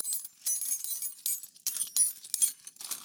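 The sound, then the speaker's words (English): Metal house keys clink and jangle together in a steady run of bright rattling bursts for about three seconds, with no voices; house keys of St. Charles property owners protesting a flood insurance overhaul. “A bucket of keys is in the parish courthouse to this day.”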